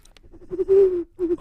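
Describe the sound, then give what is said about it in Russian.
A voice imitates a bird call with low, hooting coos: a few short murmurs, then a long held note, and two shorter coos after a brief pause. “Ты умеешь делать птичку?”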